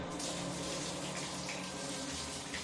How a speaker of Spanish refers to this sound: Llenó la bañera, cogió una botella de alcohol y un frasco de pastillas y se metió en el agua.